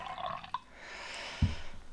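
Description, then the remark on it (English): A drink is poured into a glass, a steady hissing trickle lasting a second or so, after a light clink, with a soft thud partway through. No one speaks. “Here, I'll pour you one as well.”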